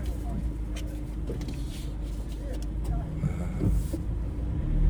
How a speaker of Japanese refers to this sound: よし、 あ、なんかバス出てますね。 マジで、 あれかな、あれ、観光バスか。